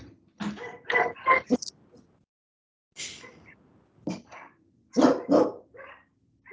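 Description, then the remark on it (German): Dogs bark at an unfamiliar vehicle passing outside, in several sharp, clustered bursts separated by short pauses, loud, with a few rougher, growl-like barks mixed in and no talking. “Da sind die Hunde, die mögen keine Fremden.”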